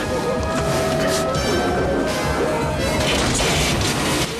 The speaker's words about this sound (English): Suddenly, the exit door blows outwards. Debris is sucked through the opening.